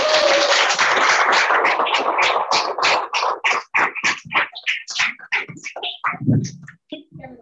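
A crowd bursts into loud, dense applause that gradually thins into scattered individual claps before tapering off. No one speaks.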